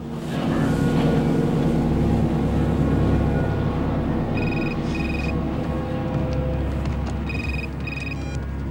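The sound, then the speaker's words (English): A Coast Guard vessel's engine drones steadily throughout as it motors past, a deep continuous rumble. Partway through, a phone's electronic ring trills twice over it. No one speaks. “watches as a Coast Guard vessel motors past.”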